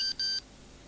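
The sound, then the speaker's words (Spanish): Two short, high electronic beeps in quick succession, a mobile phone's message alert as a message arrives, the first very brief and the second slightly longer, clear, followed by quiet room tone. “Un mensaje.”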